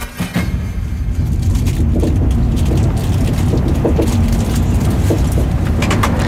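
Steady low rumble of road noise inside a moving car, loud and continuous, with faint clicks and rattles from the cabin and no talking.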